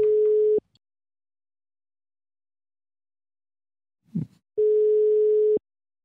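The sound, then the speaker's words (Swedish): A steady telephone ringback tone heard while a call is placed to a festival's project leader in Uppsala: two long, even beeps separated by a pause of several seconds, with a brief soft rustle just before the second beep. “För att få svar på våra frågor ringde vi upp projektledaren för Funkisfestivalen Uppsala”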